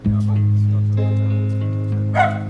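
A dog gives a single short bark near the end, partly masked by loud, sustained orchestral music with long held notes that plays throughout.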